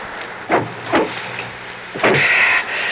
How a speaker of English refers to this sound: I'll close the door and come around the other side.